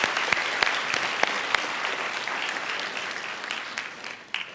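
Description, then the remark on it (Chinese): Sustained applause from a sizable audience, a dense wash of clapping with a few sharper individual claps standing out, steady throughout before tapering slightly at the end; the warmest applause given to small group leaders and district pastors standing up to be thanked. “我们请我们所有的小组长还有区牧也站起来，来来，不要客气，我们小组长区牧一起站起来，我们给他们最热烈的掌声，哈利路亚，谢谢你们。”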